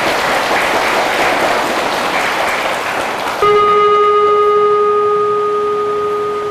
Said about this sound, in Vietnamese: Nếu không có thì các con hãy cho một tràng vỗ tay thật lớn để tụi mình làm.